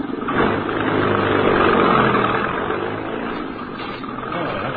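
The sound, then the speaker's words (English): An empty truck's engine rumbles steadily as it is driven over to the garage, a continuous low drone that eases off slightly toward the end as the vehicle pulls away. “Okay, Pop. Truck's empty.”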